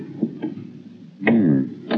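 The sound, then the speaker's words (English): Two small metallic clicks of a door handle turning, then a short creak as an unlocked second-floor door swings open, with another click at the end over a low background rumble. “Try the door.”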